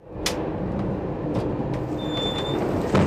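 Steady low rumble of a moving ICE high-speed train heard from inside a carriage on a trip from Munich to Mainz, with occasional sharp clicks and a thin high-pitched whine, no voices.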